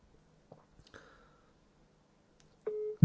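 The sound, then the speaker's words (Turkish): Faint clicks and taps in near silence, then a brief steady ringback tone from an outgoing phone call sounds once before being cut off by a loud low thump. “Şunu arayayım bir. Bekle bir.”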